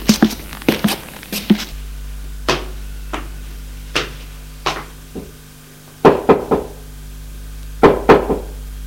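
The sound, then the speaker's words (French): Sharp wooden knocks on a first-floor door in an apartment building: a quick flurry of raps, then single and paired knocks spaced a second or so apart, over a steady low hum. Nobody speaks. “Arrivé au premier, il va frapper à la porte.”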